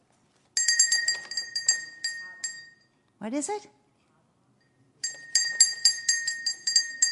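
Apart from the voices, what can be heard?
small bell ringing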